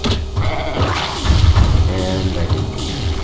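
sheep bleating

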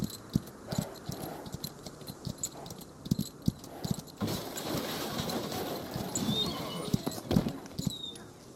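horses clip-clopping

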